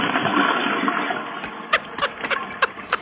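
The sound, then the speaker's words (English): A toilet flushes with a loud, steady rush of water that drains away after about a second, followed by a scatter of sharp clunks and knocks. No one speaks. “Oh, he waits for it, the whole flush.”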